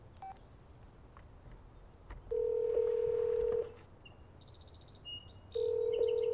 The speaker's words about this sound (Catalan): Desbloqueja el mòbil, que té en vertical en un suport al costat del volant. I marca.